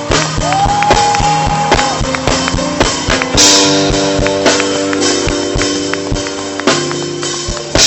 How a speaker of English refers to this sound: Would all the fathers stand, please? All the fathers in the house. Come on, we're going to clap for the fathers. Let's clap for the fathers.